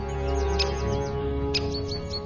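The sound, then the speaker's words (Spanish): Small birds in a broad forest give sharp, high alarm calls at a little owl that has left its home, a rapid scatter of chirps with a couple of louder bursts, over a steady low background hum. “Cada vez que sale de su casa, todo el mundo da la alarma.”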